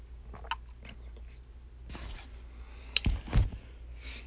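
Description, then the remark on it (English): A quiet sip of coffee: a few soft mouth and swallowing noises and a brief clunk near the end, over a low steady hum, with no talking. “Let me take a sip of coffee here.”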